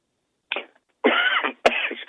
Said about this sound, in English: That's the way to introduce myself. I cough. Yeah, so you cough.